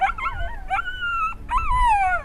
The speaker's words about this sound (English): As we get out of the car, his ears perk up. He runs straight for the sound of the howls.